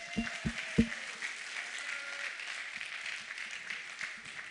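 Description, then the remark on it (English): A crowd breaks into steady applause for a person who has just sprinted using his arms in a running mechanics demonstration, a dense, even patter of clapping that holds for several seconds, opened by three heavy low thumps and a brief faint tone. “Hey, give him a round of applause.”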